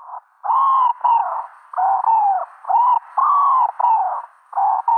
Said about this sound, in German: da mache ich ja so ein bisschen Taubenkaraoke. Genau. Und sag sowas wie du, du, du, du. Also 5 Silben habe ich gehört. Das klang nach einer Taube und das ist die Ringeltaube, oder?